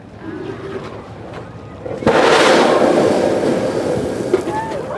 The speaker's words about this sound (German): Und Sekunden später ein Wasserdampfstrahl fauchend in die Höhe schießt.